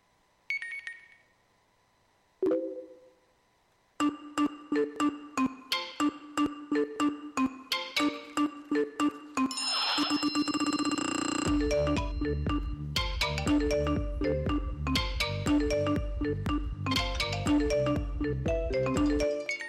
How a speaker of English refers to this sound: All of these, you recognize all those sounds, don't you? Because you get bombarded by them. All these different sounds and notifications coming at you about things that you need to pay attention to.